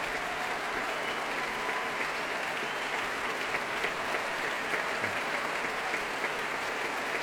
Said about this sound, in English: And he applauds the audience.